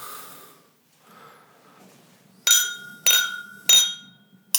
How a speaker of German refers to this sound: Lass doch erstmal kurz anstoßen. Ja.